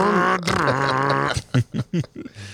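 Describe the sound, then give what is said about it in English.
A father imitates a race car engine for his son while driving, with a long, buzzy, droning tone that dips slightly in pitch, then breaks into several short, choppy revving bursts, fairly loud. “Do you make the sounds for your son, yeah, too?”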